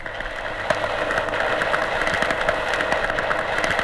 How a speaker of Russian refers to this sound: Вот этот скрежет, записанный в Черном море, очень похож на звуки зеленушки в аквариуме.